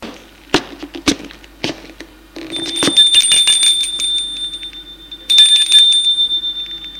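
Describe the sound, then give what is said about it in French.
A doorbell at a ground-floor door rings twice in long, bright, high-pitched bursts with a buzzing trill, after a few sharp taps at the start. No one speaks. “Et va sonner à la porte du rez-de-chaussée.”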